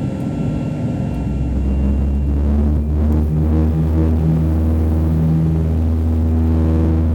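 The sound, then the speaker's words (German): A loud, steady airplane engine roar with a deep throbbing rumble, its droning tones shifting slightly as the aircraft accelerates for takeoff. No voices. “Das Flugzeug beschleunigte und als Paul die verwitterten Markierungen an sich vorbeiflackern sah, schloss er die Augen.”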